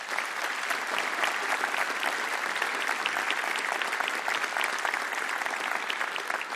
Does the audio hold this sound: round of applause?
yes